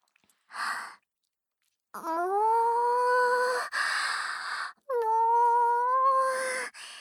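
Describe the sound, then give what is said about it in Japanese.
After a short breathy burst, a woman imitates a cow with two long, drawn-out moos as practice for a self-introduction, each moo sliding upward in pitch and held steady and loud, with a brief break in between. “実は私、牛さんの鳴き真似をしながら自己紹介をしたら、印象が強いんじゃないかと思って、密かに練習してたんです。”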